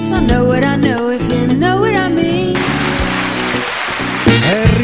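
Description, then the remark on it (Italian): Studio applause breaks out midway, a dense steady crackle of clapping that rises over the tail of a melodic music track and carries on loudly to the end. “un applauso, continuiamo con gli applausi, tutti in piedi, che bello, che bello, fantastico”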